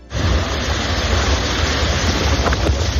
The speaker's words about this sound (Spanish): Pero lo más llamativo son estas olas, que pueden alcanzar entre los 7 y 9 metros. Y ojo, que es que llegan desde Groenlandia, a más de 3.700 kilómetros de distancia.